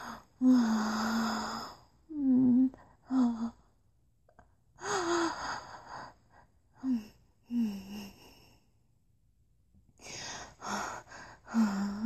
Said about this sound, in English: By now I was panting.